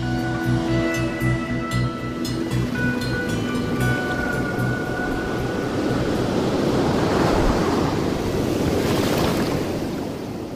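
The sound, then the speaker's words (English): Ocean surf rolls in steadily on a beach on the North Shore of Oahu, swelling into a loud, hissing wash of a breaking wave near the end, with a soft tonal music bed fading out over the first half. “It was in the surf mecca of the world, the North Shore of Oahu, and the advertisement said that the students camped out on the beach, right next to the ocean.”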